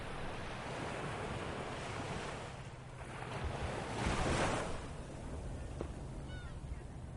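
Ocean surf washes continuously onto a shore, a steady roaring hiss that swells into a louder breaking wave midway before settling back, with some wind noise and no voices.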